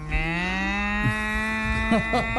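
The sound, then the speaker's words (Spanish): A female calf moos in one long, steady, high-pitched bawl that holds for over two seconds, loud, with a slightly rising, siren-like tone and faint background chatter near the end, among a herd of cows. “Es una ternera, no es una sirena de los bomberos, es una ternera.”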